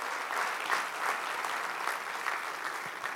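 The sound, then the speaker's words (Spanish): Sustained applause from a church audience at a miracle service, a dense wash of many hands clapping steadily at an even, fairly loud level for the whole stretch, with no voices standing out. “Si lo crees, demuéstralo dando un aplauso.”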